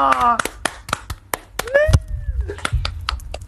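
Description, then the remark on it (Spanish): A group breaks into scattered, uneven clapping with sharp, loud claps, while children's voices call out and cheer over it, applauding after children read a line aloud together. “¡Un aplauso!”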